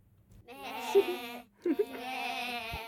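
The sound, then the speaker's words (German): Two drawn-out bleats from sheep on a pasture, one after the other with a short pause between, wavering and nasal, clear with no talking. “Zwei Kinder hüten die Schafe.”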